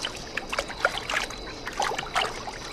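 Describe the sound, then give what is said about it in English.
Soft watery sloshing and dribbling as a blue cloth handkerchief, muddied with clay, is dunked and swished in water in a basin, with a few small splashy bursts over nearly three seconds and no talking. “My handkerchief. It's blue. Bright blue. From the mud on my suit. Clay. What happens if I put it in water?”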